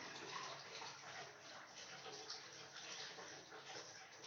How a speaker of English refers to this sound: The water is sort of lukewarm. And then I just lift up the shower and let the water pour exactly onto my foot.